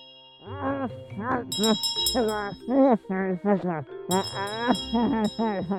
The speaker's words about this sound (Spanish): A medianoche, el descanso de Sebastián y su abuelo se rompió por unos extraños lamentos y el tañir de varias campanas.